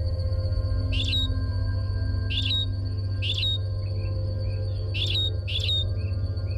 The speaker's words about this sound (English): This simple song is sung by one of Darwin's finches, a famous group of birds that helped inspire his theory of evolution.